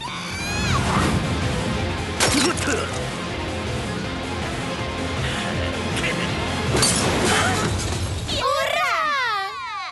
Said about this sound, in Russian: Вот же черт! Взял и разбил окно банкой.